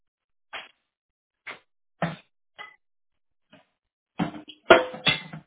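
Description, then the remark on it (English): Dishes clink and clatter in a sink: a few sharp, separate knocks at first, then a louder, busier cluster of clanks near the end, with no one talking. “Y'all can't leave them dishes in this sink.”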